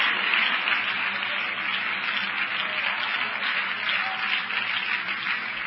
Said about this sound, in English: You may be seated, but as you're seated, let's clap one more time and everyone get involved. Everyone that did not get involved before. It sounds so much different. It sounds so solid, like something has hit.